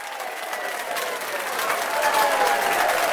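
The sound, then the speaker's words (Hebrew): A large audience at a game show applauds steadily, a dense wash of many hands clapping that grows slightly louder over a few seconds, with a faint murmur of cheering mixed in. “נמצא איתנו גם קהל גדול, מחיאות כפיים של הקהל בבקשה.”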